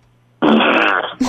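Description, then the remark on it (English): A voice makes a loud, buzzing raspberry fart imitation lasting about half a second, then a brief second sputter right after, with no talking. “You got to make the fart noise, though.”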